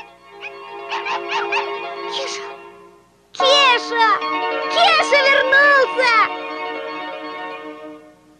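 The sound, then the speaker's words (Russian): A tiny dog named Druzhok, living in an apartment, gives a quick series of high, thin yaps, pauses, then breaks into louder whimpering and whining with sliding, squeaky pitch before trailing off. “Вместе с ним в квартире жила крохотная собачонка по кличке дружок.”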